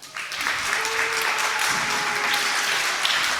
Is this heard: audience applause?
yes